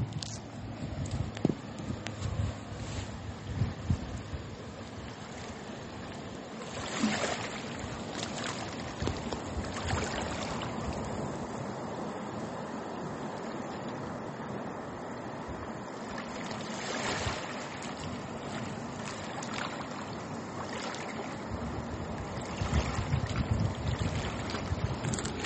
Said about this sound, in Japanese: はい、今朝の波の音は優しい音ですね。そして暖かいせいか、いつもよりも鳥さんがね、たくさん鳴いている気がします。